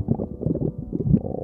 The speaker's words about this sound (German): Wenn der Magen ganz laut knurrt, dann ist das wohl das deutlichste Signal für eins: Hunger.